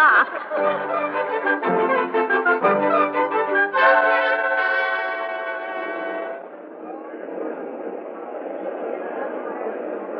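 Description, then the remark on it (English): A subway train roars along, with shrill, tonal squealing and whining during the first several seconds before settling into a steady, loud rushing rumble of the cars in motion. “You like riding in the subway”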